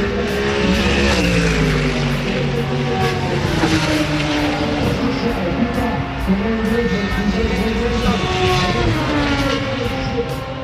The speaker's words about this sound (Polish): Po raz pierwszy w tym sezonie na Torze Poznań meldują się specjaliści od wyścigów auta Suzuki Swift